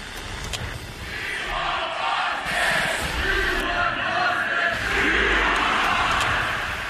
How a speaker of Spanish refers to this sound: Empieza con esto, con los gritos de We Want Boston, queremos a Boston